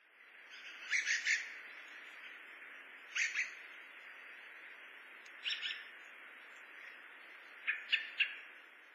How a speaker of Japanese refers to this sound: ホトトギスです。